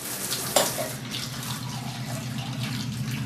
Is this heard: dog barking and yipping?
no